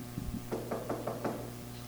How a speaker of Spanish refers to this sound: Tú vives en el 3 y voy y toco la puerta del número 7.